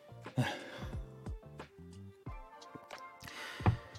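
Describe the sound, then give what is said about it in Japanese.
Someone takes a few quiet sips of tea, with soft breaths between them, then sets the cup down with a light tap. Fairly quiet, with no talking. “ちょっとお茶飲みます。”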